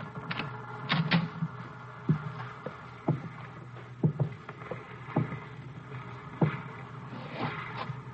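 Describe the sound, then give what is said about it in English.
A small dinghy moored to a stern rail rocks on the water at night, with irregular wooden knocks and creaks, quiet, sometimes in quick pairs, and no voices. “There's a dinghy moored to the stern rail.”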